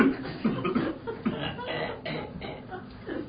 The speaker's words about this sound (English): Thinking how people listening, we're talking about being at peace, and it's like we're in a tubercular ward, and everybody's coughing.